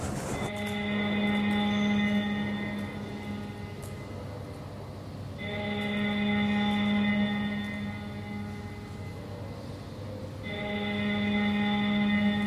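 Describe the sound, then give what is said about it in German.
A parliament division bell rings at 18:30 on a dark winter evening, summoning members of parliament to a session. It sounds as a loud, buzzing electric tone rich in harmonics, in long sustained stretches that restart roughly every five seconds, with no voices. “Das ist die Klingel für die Abgeordneten, die jetzt eine Sitzung haben”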